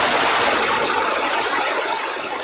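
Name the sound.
heavy rain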